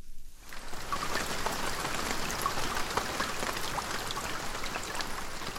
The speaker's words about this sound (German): Es regnet viel auf der Schwegalp am Fuss vom Sentis. Die Schwegalp und der Sentis sind absolute Rekordhalter, nämlich dann, wenn es um die Wassermenge geht, die vom Himmel oben herkommt.